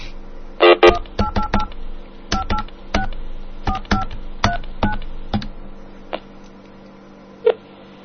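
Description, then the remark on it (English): A rapid series of telephone keypad dialing tones as someone dials Mozilla's phone support line, roughly a dozen short beeps in irregular bursts, clear, followed by a couple of faint isolated clicks with no talking. “I want to call Mozilla Phone Support and see what's up.”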